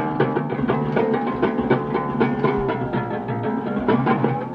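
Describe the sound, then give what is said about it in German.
A mechanical intonarumori gurgler, a noise-making box fitted with special membranes and horns, rattles steadily and loudly, its rough droning tone broken by regular clattering pulses like a slow train rolling over rail joints, with no voices. “Könnte ein langsamer Zug sein, der über die Schienen rattert.”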